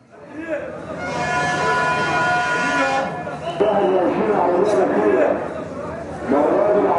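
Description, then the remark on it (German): Busy main railway station ambience: a crowd murmurs and chatters while a train's tonal horn or brake whine sounds for a few seconds, with steady rumbling activity throughout. Trains leave this station northward toward the Nile Delta cities and Alexandria. “Vom Hauptbahnhof gehen die Züge Richtung Norden, in die Städte des Nildeltas und nach Alexandria ans Meer.”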